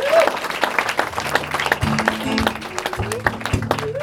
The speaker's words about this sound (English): A round of applause